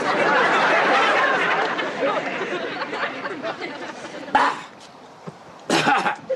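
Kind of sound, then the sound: human body sound, smoker's cough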